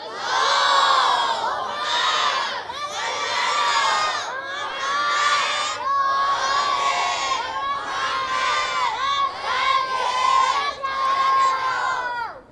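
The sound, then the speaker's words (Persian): A large crowd loudly chants the salawat blessing in unison, voices rising and falling in repeated phrases of about two seconds each, sustained and strong for the whole stretch. “قرار شد صلوات ها رو بلند بفرستی.”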